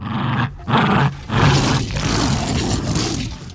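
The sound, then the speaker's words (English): A Jack Russell Terrier growls and snarls in rough, throaty bursts while grabbing and shaking a rope toy, the sound loud and gritty like a monstrous roar, with no one speaking; the sounds were used for the T-Rex. “Gary watched his Jack Russell Terrier playing with a rope toy and saw the similarity of the T-Rex grabbing and shaking other dinosaurs and lawyers to death.”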